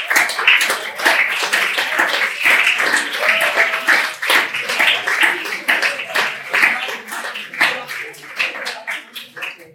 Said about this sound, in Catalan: O sigui que jo, com us deia, el que vull abans que res és felicitar-vos i demanar un aplaudiment per tots nosaltres.